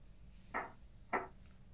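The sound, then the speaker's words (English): Two sharp knocks on a door, spaced a little over half a second apart, distinct against a quiet, faintly humming background with no voices. “The knocking on the door sounds like church bells ringing in my ears.”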